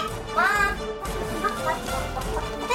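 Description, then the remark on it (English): A woman imitates a chicken, producing a few rising, squawky clucks over a noisy, bustling background with faint clatter. “why are you making chicken noises?”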